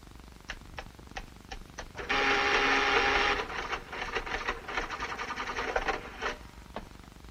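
An adding machine, used to count cash in a vault, clacks through a run of sharp key presses, then grinds out a loud, steady mechanical whir before settling into rapid rattling clicks and a final single tap. No voices.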